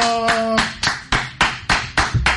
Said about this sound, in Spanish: Ese aplauso bueno.